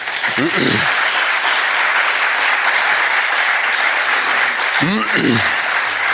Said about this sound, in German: Ein Applaus wurde da angedeutet. Sie dürfen gerne auch applaudieren, bitte.